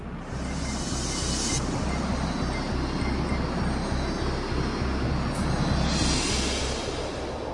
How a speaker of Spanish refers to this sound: En la estación de metro de Hotorget tomamos uno de los trenes en dirección sur y bajamos en la tercera estación llamada Slussen.